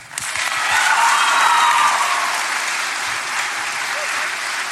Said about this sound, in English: Can we give one more round of applause for our students?